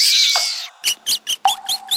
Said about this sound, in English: If you're like us, you're staying in your basement and you're staying safe. Even with the sound of water dripping and rats squealing.